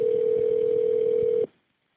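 A steady, unbroken telephone tone hums at a low-mid pitch for about a second and a half as a dispatcher calls back, then cuts off abruptly into near silence. No one speaks.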